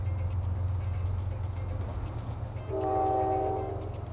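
A passenger train rolls along with a steady, deep rumble and rattle. About two-thirds of the way through, a sustained, multi-toned horn blast sounds for roughly a second. No one speaks.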